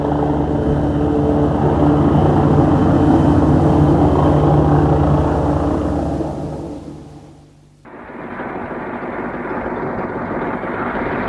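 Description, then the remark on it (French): A helicopter's loud, steady rotor and engine roar fills the air, briefly fades and dips, then returns with a harsher, hissing drone. No voices. “Le pilote de l'hélicoptère, en surveillant la chimère, prévient par radio que l'on vienne les chercher par camion.”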